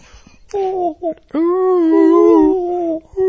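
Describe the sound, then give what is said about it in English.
A voice imitates whale sounds: two short rising moans, then one long, wavering, mid-pitched tonal call that holds steady for about two seconds before fading out. “You know what goes really well with your morning coffee? Whale sounds.”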